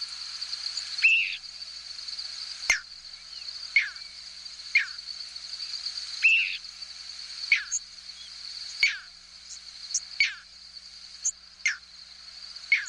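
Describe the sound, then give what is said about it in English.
Short, high squeaky nocturnal flight calls from thousands of migrating birds passing over a hayfield in central New York State sound every second or so against a steady nighttime drone of crickets, faint, with no voices present. “This clip is from a 6-hour recording of squeaks, whistles, and peeps from thousands of birds passing over a hayfield in central New York State.”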